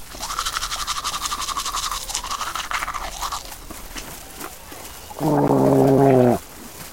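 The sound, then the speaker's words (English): Steady toothbrush scrubbing for a few seconds, brisk and rhythmic, then a pause followed by a short, louder buzzing, gargle-like tone near the end. No one speaks. “He's got my toothbrush! This is his toothbrush!”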